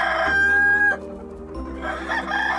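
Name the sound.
rooster crowing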